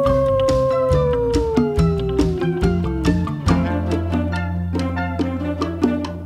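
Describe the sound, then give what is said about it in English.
A long, drawn-out howl slowly slides downward in pitch over a bouncy musical backing with a steady beat, then the music carries on with bright plucked notes. “Yes, I hear you howl when you start to prowl.”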